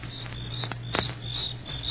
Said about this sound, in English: You hear that? Yeah, sure. Just crickets, though.